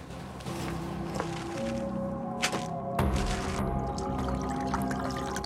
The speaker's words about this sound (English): Next, he pours a glass of red wine, then searches through some empty bottles stored in a cardboard box.